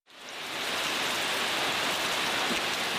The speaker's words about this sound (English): Rain soaks what is left of the EYN Church in Michigan.